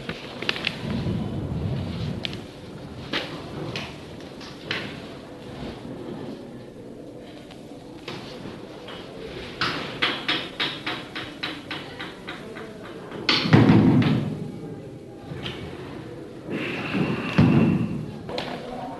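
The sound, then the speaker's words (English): A door is shoved open with heavy, muffled thuds, a scatter of knocks and rattles leading to two louder, booming impacts, with faint voices in the background. “You can open the door.”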